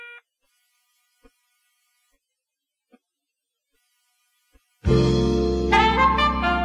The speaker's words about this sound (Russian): В трубке загудели гудки.